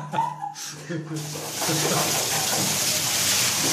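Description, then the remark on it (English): A voice speaks briefly, then a loud, steady rush of water pours and splashes continuously as water is poured over a person from a massive, heavy pottery urn at 2 a.m. on holiday in Barcelona, filling the rest of the moment without pause. “Fortunately, though, my brother was on hand to do the pouring.”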